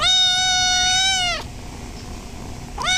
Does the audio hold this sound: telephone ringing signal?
no